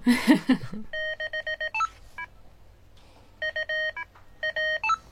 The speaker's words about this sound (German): Okay, das ist CW, das sind Morsezeichen, aber was sind die... Die einzelnen lustigen akustischen Signale dazwischen.